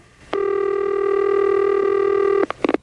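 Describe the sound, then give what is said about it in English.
A steady, buzzy telephone tone holds for about two seconds, then cuts off into a quick run of three or four short touch-tone beeps as a number is dialed to call back a customer. No one speaks. “All under warranty, but of course, we're going to call back, and there's just that teeny little outstanding bill.”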